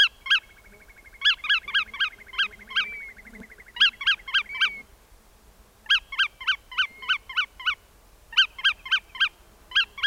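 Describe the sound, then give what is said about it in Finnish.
A wader gives loud warning calls late in the June nesting season, in quick bursts of several sharp, ringing notes, each burst separated by brief pauses. No one speaks. “Toukokuussa taivas täyttyy niiden soidin äänistä ja sitten kun hiljaisempi kausi, kesäkuun hauduntakausi on lopuillaan, niin sitten taas alkaa kovempi ääni. Äänijakso, nämä varoitusäänet.”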